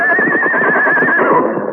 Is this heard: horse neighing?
yes